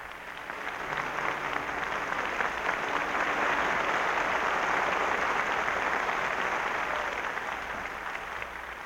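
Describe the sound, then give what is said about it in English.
Sustained applause from a large concert audience, joined by the standing members of the NBC Symphony Orchestra, for Arturo Toscanini and violist William Primrose after their performance of a symphony: a dense, steady wash of clapping that swells in the first second and holds evenly throughout, with no voices standing out. “The members of the orchestra are now standing, joining with them in the applause.”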